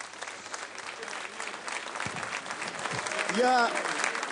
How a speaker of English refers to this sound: Look what friends are standing next to me. Each one of them are experts. Each of them wants for everything to really succeed here. And let's give them some applause.